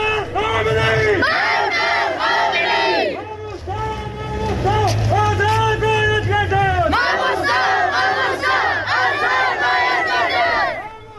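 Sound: protest crowd chanting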